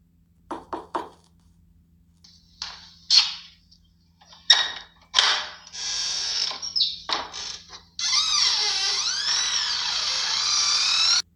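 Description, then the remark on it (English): A few sharp metallic clicks and rattles of a lock being worked, followed by a longer, wavering creak as the door of a home swings open, fairly loud, with no voices. “Open the door right now before I make your life a living hell.”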